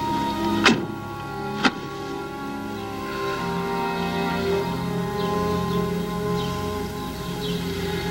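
vehicle, person getting into car

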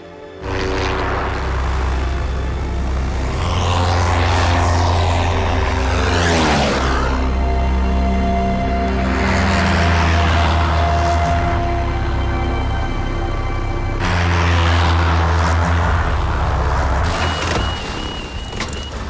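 vehicle, airplane engine droning overhead

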